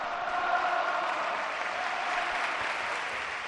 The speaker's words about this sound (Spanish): Sigue la ovación y ahora sí el pasamanos de los futbolistas del Celta. El abrazo de Aspas con Navas.